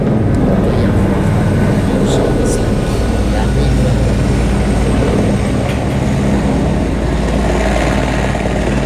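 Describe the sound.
A helicopter heading for the landing pad roars overhead in a loud, steady, rumbling drone that fills the whole stretch, with faint voices murmuring underneath.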